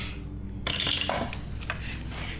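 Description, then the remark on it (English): Dice rattle down through a dice tower, a quick burst of hard plastic clicks and clatters lasting about a second, with a low steady hum underneath and no talking. “I think I'm gonna stop using the dice tower.”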